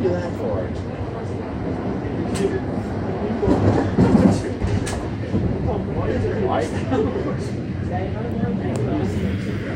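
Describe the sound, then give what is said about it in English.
A train running on rails as it arrives at Summerhill Station: a steady, heavy rumble with scattered sharp metallic clacks, swelling briefly in the middle, while indistinct voices murmur underneath. “Arriving at Summerhill Station. Doors will open on the right.”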